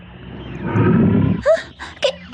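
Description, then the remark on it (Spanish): A deep, rumbling lion roar swells for under a second, followed by a few brief, higher-pitched calls. No one is speaking. “¿Qué fue eso? Pareció un rugido.”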